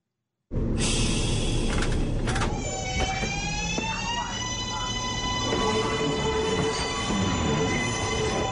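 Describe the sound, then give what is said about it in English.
A New York City subway train roars loudly and continuously, with rumbling wheels and high metallic screeching tones sliding and ringing over the clatter as it moves along the track. “When the trains are moving, there's no better way to get around New York City than on the subway.”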